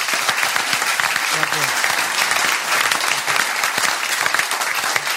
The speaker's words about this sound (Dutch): De mensen gaan nu niet staan, maar geef je wel een applaus. Let maar op.